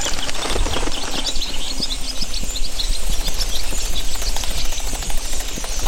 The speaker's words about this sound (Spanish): Rompen el silencio por completo. Miren, primero sale solo un vencejo. Y parece que invita a todas las demás. ¡Ahí van todas! ¡Uf! De pronto se ha convertido en un huracán de aves. ¡Miren cómo salen para buscar su alimento!